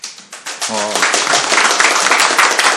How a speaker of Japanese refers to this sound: はい、拍手が入りましたが、今現場はこちら、ユーマグお茶会講座第2回もう、終了しつつあるところなんですけれども